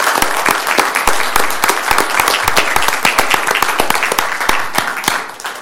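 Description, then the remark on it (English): An audience at a commission meeting breaks into steady applause, many hands clapping densely and continuously, sustained at an even level with no voices standing out. “So I'd like to give you a big round of applause on behalf of all of us here.”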